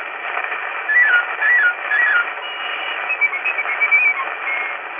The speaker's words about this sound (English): Bird-like warble of the piccolo.